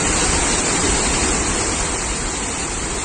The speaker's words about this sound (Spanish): Es el sonido de la lluvia en Vinaroz, en Castellón.